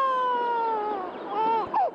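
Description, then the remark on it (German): A cat lets out one long, wavering meow that dips and then rises sharply at the end, heard alone with a faint hiss like an old, worn recording. “Ist das eine Katze oder ein Kind?”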